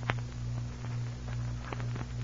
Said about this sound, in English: It was a short time later that Sergeant Preston heard footsteps approaching. King whined and wagged his tail so the sergeant knew it was Pat.